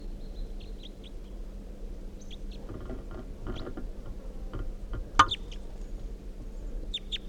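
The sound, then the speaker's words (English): Red crossbill calls from a red male with a right-crossing bill, perched on top of a net looking down at decoys: short, sharp, high-pitched chip notes in scattered bursts over a low steady rumble, with a single loud click partway through and no talking. “So recording captured the bird. It's a red male with a right crossing bill.”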